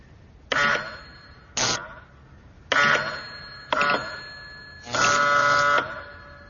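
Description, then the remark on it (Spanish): An electric bell on a receiver, triggered wirelessly by pressing a button on a separate device with no cable connection between them, rings in five separate bursts of uneven length, some brief and one long, with a harsh metallic buzzing tone and short silent gaps between rings. “De tal forma que si presiono este botón, suena la campana del receptor, y todo ello sin ninguna conexión por cable entre los dos aparatos.”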